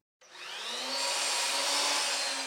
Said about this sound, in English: On a Thursday night, volunteers from the Bethel Park Historical Society are sawing wood to use for new baseboards at the old Bethel Grade School building.